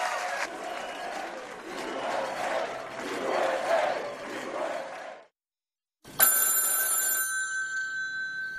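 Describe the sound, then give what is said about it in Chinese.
A loud crowd roars and cheers, falls silent for a moment, then a telephone bell rings sharply, its bright metallic jangle ringing out alone and lingering, for Tsai Ing-wen's congratulatory call to Donald Trump on 2 December 2016. “2016年12月2号，特朗普接获蔡英文的祝贺电话。”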